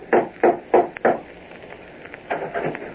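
Four firm, evenly spaced knocks on a door, close by, followed after a short pause by a quicker, softer cluster of raps.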